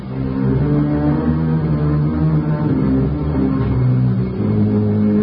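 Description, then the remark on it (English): A car engine rumbles loudly, holding a steady low drone with slight revs rising and falling, as if pulling away, as the car drives back to the narrator's house. No voices are heard. “Between us, Betty and I managed to get her unresisting husband into the car, back to my house and into bed, where he lay inert and unresponsive to all our overtures.”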